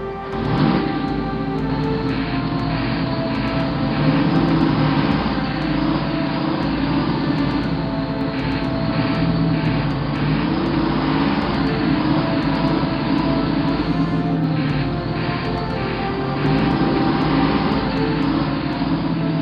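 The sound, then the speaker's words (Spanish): Military truck engines drone steadily, a continuous loud low rumble with rattling, clattering and creaking layered on top as the trucks, packed with standing men, drive at dusk without headlights over worn roads full of potholes. No voices are present. “Al atardecer llegan los camiones. Subimos. Vamos apretados el uno contra el otro.”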